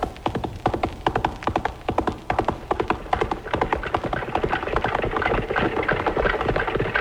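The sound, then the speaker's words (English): Horse-drawn wagons rolling along, a steady low rumble of wheels under a dense, rhythmic clatter of sharp knocks that continues without pause. No one speaks. “Well, many people will not recognize the sound of wagons.”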